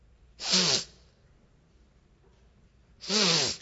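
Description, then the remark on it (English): A voice imitates a young man with a cold sniffing in a cafe, with two loud, hissy snorts through the nose, each about half a second long and separated by a quiet pause of roughly two seconds. “And one obviously had a cold, because he was sniffing.”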